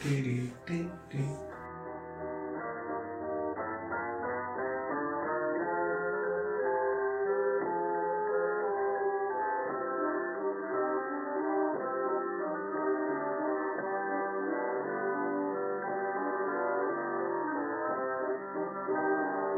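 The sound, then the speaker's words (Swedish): A recorded telephone hold loop plays on the Lejonposten switchboard: tinny, narrow-band music with sustained, layered tones at an even, steady level throughout. A brief noisy crackle comes at the start, and no one speaks. “Så får du höra en sån här liten inspelad slinga.”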